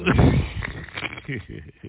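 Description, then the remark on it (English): A sharp, throaty hiccup bursts out at the start, followed by murmured voiced sounds and a short gulping vocal catch toward the end. “Another hiccup.”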